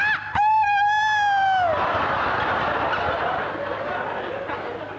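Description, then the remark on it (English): A voice imitates a hippo, starting with a strained, high, nasal tone held for a moment before sliding downward, then breaking into a long, rough, breathy rasp that fades slightly toward the end. “In fact, most of the noises that he tried to make like a hippo used to come out in a completely different way.”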